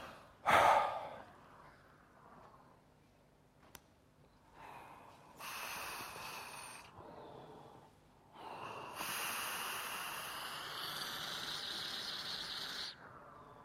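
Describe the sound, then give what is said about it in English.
A series of hissing breaths as a person breathes a medical helium-oxygen mixture: a sharp snort-like intake, then longer airy inhalations and exhalations separated by short pauses, the last one long and steady. No one speaks. “So I'm going to try breathing in this mixture of helium and oxygen.”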